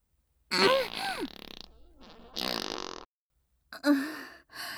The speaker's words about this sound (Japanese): たまりません。やっぱりおならは爆音でブリブリぶっこくに限りますね。やだ、くっさー。いけませんね、この匂い。とんでもない鼻もげおならですね。